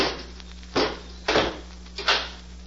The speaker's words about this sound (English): Robot One, close the door and bolt it.